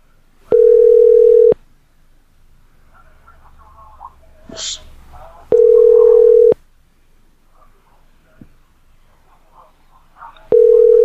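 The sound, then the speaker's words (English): A steady, mid-pitched telephone line tone sounds in three loud one-second pulses, spaced about five seconds apart, with faint rustling and scattered small noises in the gaps, on a call to a hotel that does not pick up. “This hotel doesn't pick up.”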